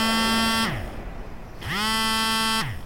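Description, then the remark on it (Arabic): A mobile phone rings with two long, loud buzzing tones separated by a brief pause, each sliding up in pitch as it starts and dropping away as it stops, on Friday morning, 7 October 2022, at 11 a.m. “كيوم طبيعي صباح الجمعة، سورة الكاف، روتين يوم الجمعة، رن الجوال، وعادة دا الوقت ما في أحد يتصل.”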